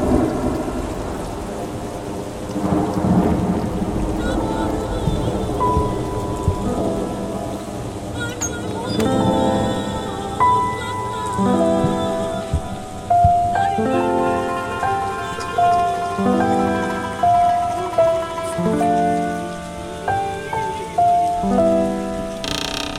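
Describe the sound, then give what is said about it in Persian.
Steady rain pours throughout while deep thunder rumbles roll in, with a melodic musical accompaniment of sustained tones playing over the storm. “در خونم رو میبندم، نبار بارون باهات قهرم.”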